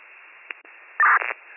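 A short burst of band-limited static hisses steadily on a dispatch radio channel as unit 74 is called, broken by a couple of quick clicks and then a louder crackling squelch near the end, like an open two-way channel with no one speaking.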